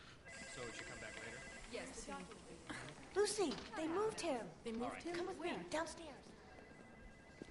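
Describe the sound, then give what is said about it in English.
A bell rings with a steady, high, sustained tone, joined midway by overlapping voices talking over it. “You got a bell.”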